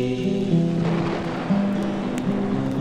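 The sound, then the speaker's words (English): Steady rain hisses throughout, a dense, even wash of patter, layered over low sustained musical tones that hum beneath it. No one speaks. “I watch the rain.”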